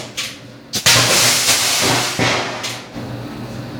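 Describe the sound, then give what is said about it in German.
An NMC battery cell bursts with a sharp bang in a test, then vents in a loud, continuous roaring hiss of fire and smoke that surges and fades in bursts, its temperature climbing past 600 degrees, with no talking. “So, hier schöner Knall, Feuer, Rauch, volles Programm.”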